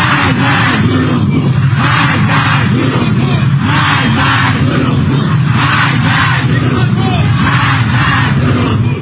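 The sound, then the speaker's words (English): A large crowd of Iranian protesters, demanding that Iran's supreme leader Ayatollah Ali Khamenei step down, chants in unison on a Saturday, loud and continuous, with rhythmic rising and falling shouts repeating every second or so over a dense roar of many voices. “A group of Iranian protesters demanded Iran's supreme leader Ayatollah Ali Khamenei to step down on Saturday after Tehran said that its military had mistakenly shot down a Ukrainian plane, reports the Jerusalem Post.”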